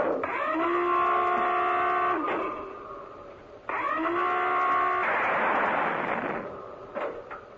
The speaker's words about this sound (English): That was the surfacing alarm that you just heard. The submerging alarm, I beg your pardon.